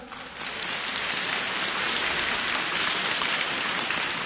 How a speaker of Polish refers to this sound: Oraz zespół działający przy Oazie Młodzieżowej, także brawa dla nich.